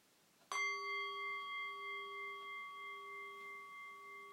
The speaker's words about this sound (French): Et au prochain son de cloche, je vous invite à vous incliner.